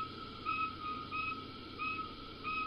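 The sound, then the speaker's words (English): Two male insects of the same species trade pulsed calls, one male putting each short tonal chirp right between the other's. This gives about four evenly spaced whistle-like pulses over a steady background hiss. “And this is a case of two males, and they're interacting with one another. One male is putting his pulse right in between another male's pulses.”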